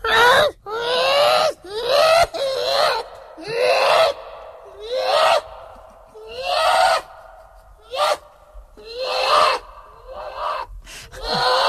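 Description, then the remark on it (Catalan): A person imitates a seagull with a rapid series of shrill, rising vocal cries, about a dozen loud yelps in close succession with brief gasping breaths between them. “Faci de gavina, que ho fa realment molt bé.”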